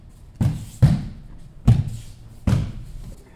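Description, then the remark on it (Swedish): Four heavy, muffled thuds of bodies landing on a judo mat during fall-technique practice, spaced unevenly over a few seconds, each a dull low impact with a brief slap. “Det är därför det dunsar i mattan.”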